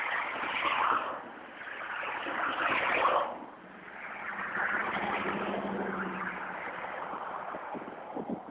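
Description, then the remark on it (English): Cars whoosh past on a street during the lunch rush, two loud swells in the first few seconds followed by a steadier stream of passing traffic with a low engine hum. “Waiting for the cars to go by here.”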